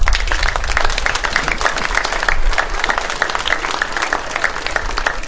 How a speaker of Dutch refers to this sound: Een groot applaus voor Rijnland.